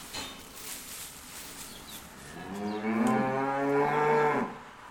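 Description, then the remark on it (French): A single long, low cow moo rises out of quiet barn ambience midway through, swelling loud before trailing off, with no one talking. “Bien dans les autres bacs de paille pour que les vaches puissent manger.”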